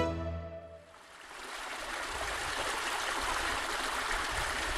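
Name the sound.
mountain stream flowing water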